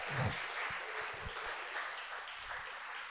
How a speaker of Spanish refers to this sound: ¿Qué le parece si le damos un aplauso al Señor?